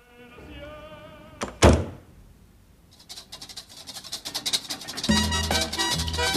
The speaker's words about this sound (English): He looks down at her mouth and moves tentatively in to kiss her, pushing the door shut as he does so.